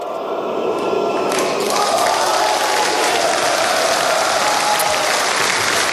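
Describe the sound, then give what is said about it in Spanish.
The Ukrainian Parliament breaks into sustained, loud applause after the removal of Yanukovych. Dense clapping from many hands lasts several seconds, with faint crowd murmurs and a few shouts mixed in. “Finalmente, Yanukovych terminó siendo destituido por el Parlamento ucraniano, que rompía en aplausos tras su marcha.”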